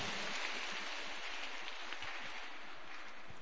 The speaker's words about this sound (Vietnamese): Xin dành một tràng pháo tay để tán dương lẫn nhau.